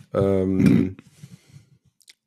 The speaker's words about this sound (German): Tippt an der Gitarre.